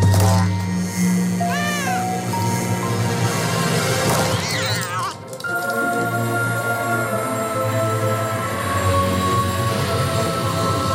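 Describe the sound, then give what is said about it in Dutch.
A cat meows twice, a short call early and another a few seconds later, heard clearly over a loud, dramatic orchestral music bed that swells and continues to the end, in a movie-like Samsung teaser trailer for its 28 April event, about a man and his cat finding a box at his door. “Nou, die kondigt gewoon vandaag zijn event aan voor april 28 april, met een soort van movie-achtige trailer van een man die met zijn kat een doos vindt voor zijn deur.”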